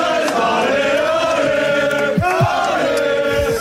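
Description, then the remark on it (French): A few dozen supporters at the airport in the morning welcome the arriving Brest players, cheering and chanting in a loud, continuous wash of many voices, with sustained sung tones rising above the steady roar throughout. “Ce matin, les joueurs ont d'abord été accueillis à l'aéroport par quelques dizaines de supporters.”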